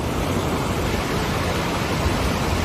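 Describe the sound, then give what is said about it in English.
Heavy rain pours down on Nevada, at the Burning Man Festival in Black Rock, in a dense, unbroken hiss that stays loud and even throughout, with no voices or distinct individual drops standing out. “Water pouring down on Nevada.”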